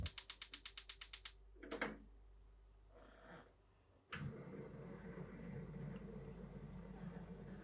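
A rapid run of about nine sharp clicks from a gas stove igniter, a few soft clunks, then the burner catches with a sudden, steady whooshing roar of flame, turned to maximum heat to warm food in a pot.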